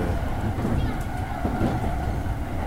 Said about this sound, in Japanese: はい、本日はちょっと電車の中からお送りするというアクロバティックなことをやっておりますので、どうぞ皆さん許してください。